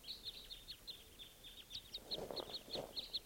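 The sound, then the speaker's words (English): Two crossbills flying over at 5:30 a.m., giving a rapid, steady series of short, sharp, high-pitched kip calls, fairly faint and overlapping, with a brief soft rustling noise partway through. No one speaks. “More crossbills at 5:30 a.m.”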